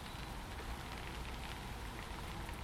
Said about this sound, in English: listening to all that lovely rain. Just magical, isn't it, rain? Unless you're really getting soaked in the river, of course.